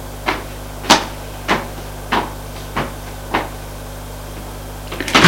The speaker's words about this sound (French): La porte s'ouvre.